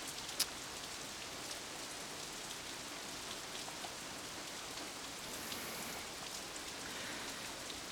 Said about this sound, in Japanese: いつまで雨ん中突っ立ってんの。風邪ひいても俺は責任取らねえぞ。